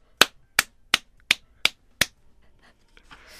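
Six sharp hand claps in a steady, even rhythm, each crisp and bright with a quick decay, followed by near quiet and a faint rustle at the end. No one speaks.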